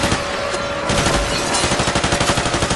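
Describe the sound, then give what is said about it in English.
Sustained automatic gunfire rattles in rapid, evenly spaced bursts, loud and dense, with a brief swell of heavier fire partway through and no voices present, as the regime of Bashar al-Assad in Syria unleashes its military firepower against protesters. “As the marches gained momentum, the regime unleashed its military firepower.”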